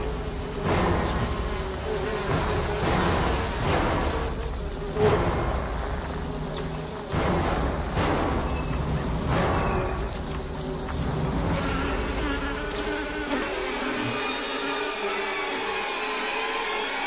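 A dense swarm of wasps buzzing steadily around their nest high in the treetops as ants raid it, fairly loud, a continuous droning hum with faint crackling and rustling beneath it and no voices.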